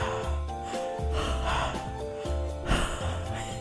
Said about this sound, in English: Are you recovering from a hard workout? Yes. Am I still breathing heavy?